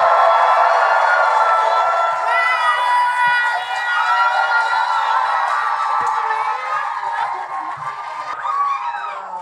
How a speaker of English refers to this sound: Ladies and gentlemen, please give a big round of applause for tonight's hosts, Matt Rogers and Joel Kim Booster.